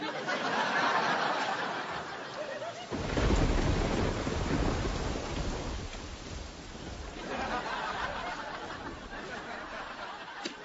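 Steady, hissing rain pours throughout, and a deep rumble of thunder rolls in near the middle, swelling loudly before fading back beneath the downpour.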